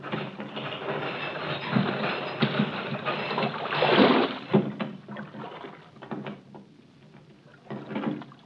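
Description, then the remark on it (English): A heavy metal harbor chain, which closes the mouth of the port at night, rattles and clanks as it is lowered, with a dense grinding surge partway through and scattered clinks trailing off. No one speaks. “Chain that closes the mouth of the port at night is lowered.”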